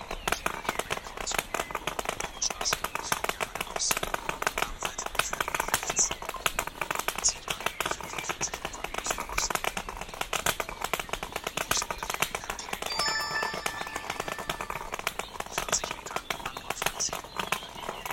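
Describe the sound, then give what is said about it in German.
Footsteps cross a metal rain grate, each step a sharp, rattling clank in a steady walking rhythm that continues throughout, with faint voices underneath. “Habt ihr das gehört? Hier ist das Regengitter.”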